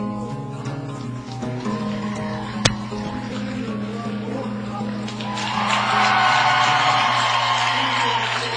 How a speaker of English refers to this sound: Well, that mighty roar you hear in the background is the Dort College Defender crowd making their presence known. The Dort College Defenders having their players introduced.